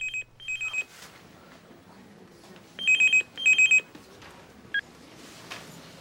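A phone rings with an incoming call from Raffi: bright, high electronic trills in short rapid bursts, sounding in a few separate groups over a low, quiet background hum.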